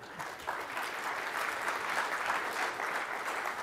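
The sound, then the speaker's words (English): An audience claps steadily throughout as a presenter walks up, a dense wash of many hands at moderate volume with no voices standing out, sustained evenly from start to finish. “I just like a little applause when I walk up.”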